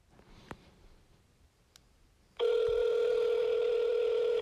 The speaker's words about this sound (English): And this is so ridiculous that nobody's picking up the fucking phone. But we're going to try him.